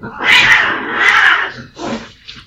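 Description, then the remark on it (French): A cat laughs in loud, drawn-out yowling bursts: two long strained calls followed by a shorter one, with no talking. “J'ai horreur des chats qui rient.”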